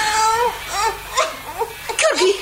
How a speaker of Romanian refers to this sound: ai auzit? Tușește copilul? Da.